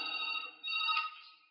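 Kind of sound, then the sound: household object, telephone ringing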